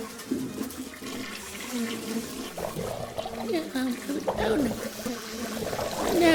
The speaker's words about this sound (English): I'm in the bathroom now, and my eyes are barely watering. Probably time for a flush. It's quite full.